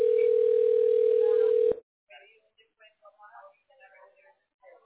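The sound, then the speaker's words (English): A steady, loud telephone ringing tone from an outgoing call holds one mid-pitched note for under two seconds, then cuts off sharply. Faint, intermittent speech follows as the call is forwarded to an automated voice messaging system. “Now he's ringing.”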